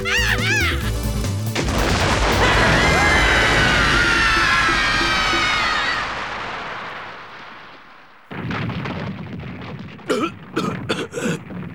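A loud cartoon-style bomb explosion bursts in early, followed by a long roaring, crackling rumble that slowly fades, then a few short squeaky yelps near the end.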